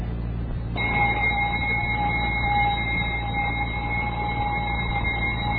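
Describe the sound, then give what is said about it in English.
A woman, a Navy lieutenant, imitates a radio alarm clock starting up in the morning: a short burst of hiss, then a steady, unbroken electronic-sounding whine that holds at even loudness for about five seconds. “in an imitation of a radio alarm clock starting up in the morning.”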